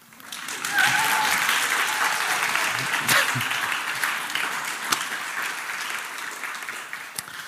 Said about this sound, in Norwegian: Jeg trengte ikke applaus, men tusen takk.